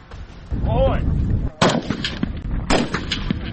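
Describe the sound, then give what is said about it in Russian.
Reservists practise firing assault rifles and pistols at a military training range: several sharp, loud shots at irregular intervals, echoing over a steady outdoor rumble, with a faint voice briefly audible in the background. “На полигоне отрабатывалась стрельба из автоматов и пистолетов.”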